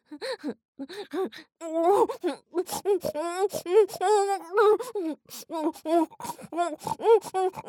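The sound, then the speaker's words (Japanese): A woman's voice imitates a pig, making a rapid string of loud snorting grunts and oinks in short bursts with brief pauses between them. “ブヒブヒブヒ、鼻鳴らします、下品な音出します”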